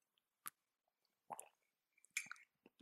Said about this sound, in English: And also, as I drink some water.